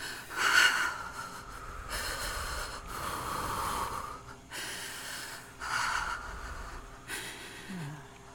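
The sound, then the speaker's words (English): Heavy, rhythmic breathing, a series of loud, airy inhales and exhales with a rough, snorting edge, repeating about five times with short pauses between breaths and no talking. “Match my breathing.”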